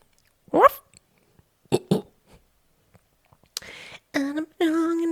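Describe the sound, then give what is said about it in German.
A person imitates a dog after the doorbell rings, giving a few short, sharp barks spaced apart, then longer, drawn-out woofing calls, all loud with no talking. “Wenn die Schelle schellt, dann belle ich.”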